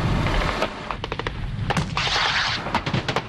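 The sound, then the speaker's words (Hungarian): Rapid bursts of automatic weapons fire crack out in quick succession, with heavier booming shots and a rushing roar mixed in, loud throughout with no speech: Hungarian NATO company soldiers firing in a live-fire exercise at targets in cover, using BTRs, 30 mm autocannon, anti-tank rockets and guided anti-tank missiles. “Ezzel a tűzzel tulajdonképpen támogatják a századnak a harcát. Élő erőre, tűzeszközökre, fedezékben elhelyezett célokra.”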